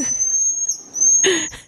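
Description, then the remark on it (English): A marmoset monkey call: a long, thin, high-pitched whistle held steadily for nearly two seconds, briefly joined by a harsher, breathy chirp near the end. “Are you aware that scientists have now found that marmoset monkeys in South America can call their own children by their names?”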